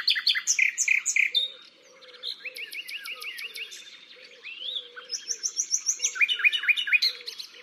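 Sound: nightingale song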